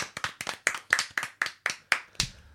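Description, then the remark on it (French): Brief hand clapping: about ten crisp, sharp claps in a quick, steady rhythm, fairly loud and with no talking, finishing on one slightly louder clap that rings out. “Ça s'applaudit, bravo.”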